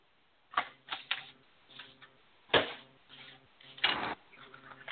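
playing cards being shuffled

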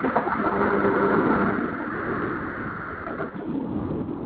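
thunder rumbling

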